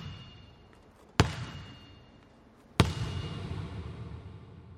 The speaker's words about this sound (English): But then we went into the corner of the room, and I got elevated on the bleachers, and I had my microphone above the ball, and the guy slammed the ball on the ground, and then as the ball was coming up to my microphone, you hear the ping.